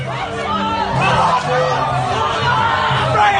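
A crowd of protesters, two groups of students shouting and chanting at each other at the University of Queensland, many loud voices overlapping in a dense, continuous roar with rising and falling vocal tones and no pauses.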